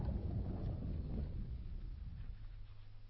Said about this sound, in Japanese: 船が止まりました。船が停止しました。